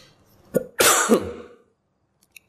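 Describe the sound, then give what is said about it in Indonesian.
A person coughs, a short sharp burst followed by a longer rough, throaty cough lasting about a second, then quiet with a faint click. “Mohon maaf ini agak masih batuk.”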